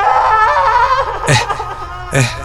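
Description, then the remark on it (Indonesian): A woman crying hysterically, a loud, wavering wail broken by two sharp, gasping sobs, with no talking. “Namun dia tidak menggubrisku, malah terus menangis dan semakin menjadi.”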